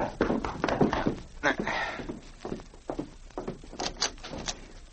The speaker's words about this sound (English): A short time later, Solitaire Jackson was in his hotel room when he heard a knock at the door.